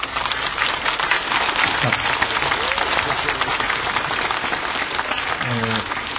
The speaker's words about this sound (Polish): Potraktujmy ten nasz wspólny czas bardziej jako modlitwę, nie koncert, za który jesteśmy oklaskiwani. Chyba że te brawa były właśnie dla tego Jezusa.